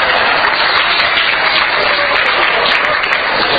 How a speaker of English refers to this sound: I noticed 12 and a, I noticed 32.5% of our club was clapping, and they were all women.